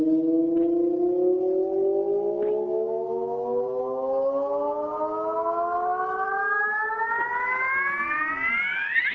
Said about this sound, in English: you can hear the chirp occurring as it sweeps up to higher frequencies and the amplitude grows